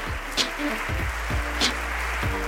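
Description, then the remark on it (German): An audience applauds steadily for a couple of seconds for Sonja Greinacher after her talk, a dense, even wash of clapping with faint voices murmuring underneath. “Ich danke euch fürs Zuhören und für den Applaus, fürs Interesse.”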